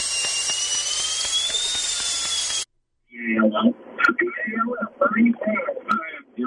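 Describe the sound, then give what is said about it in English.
A dentist's drill whines at a high pitch for about two and a half seconds, its tone rising slightly, then cuts off abruptly; after a brief silence, a man starts talking. “Give me some like dentist drill sound effects.”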